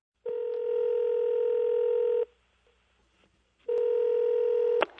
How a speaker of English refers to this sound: Phone call happening, you think?